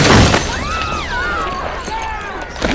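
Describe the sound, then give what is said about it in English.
A saloon window in Mobiti shatters as a man comes headfirst through it: a loud, sharp crash of breaking glass, followed by a couple of seconds of bright ringing and tinkling as the shards settle, with no talking. “emerge headfirst through a window.”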